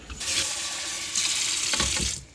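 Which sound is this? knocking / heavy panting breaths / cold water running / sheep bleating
cold water running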